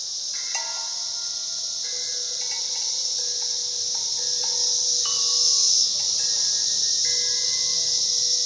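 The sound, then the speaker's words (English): A dense, unbroken chorus of Brood X 17-year periodical cicadas, recorded during their 2021 emergence, hisses and rasps steadily throughout, while sustained string-like drone tones shift pitch quietly underneath. No one speaks. “The title of our show today is called String Drones and Cicada Rasp.”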